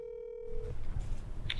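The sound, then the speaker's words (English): A single steady ringback tone from a woman's phone call to her mother, lasting under a second, then giving way to low, rumbling background noise with no talking. “Snyder pulls out her phone to tell her mom the big news”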